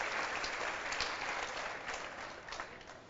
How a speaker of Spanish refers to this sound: ¿Cuántos lo creen y cuántos dan gloria a Dios? Porque el Señor cumplirá su promesa. Démosle un fuerte aplauso a Jesucristo.